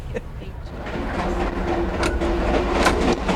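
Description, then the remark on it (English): A passenger train rolls steadily along the rails: a continuous low rumble with irregular clicks and clacks, a faint high squeal running through it, and indistinct voices murmuring underneath. “I'm not really a train buff, but I know a fun train when I see one, you know?”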